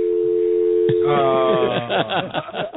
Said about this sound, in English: tell me, does this sound like a phone hanging up?